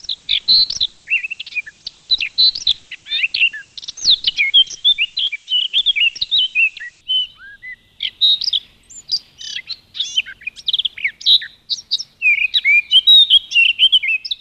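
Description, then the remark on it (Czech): A Eurasian blackcap sings a lively, continuous song of rich warbling phrases and fluty notes, clear, with no other sounds or voices around it. “Ten zpěv opravdu doporučuji se naučit, pustit si ho, protože myslím, že je opravdu běžný už v té jarní přírodě a že jakmile se ho trochu naučíte, tak si ho budete mnohem víc všímat.”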